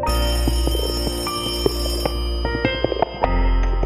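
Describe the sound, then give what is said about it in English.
An old-style telephone rings, its metallic bell clattering in a rapid, continuous jangle with sharp strikes throughout, loud and unaccompanied by any voices. “The phone rang.”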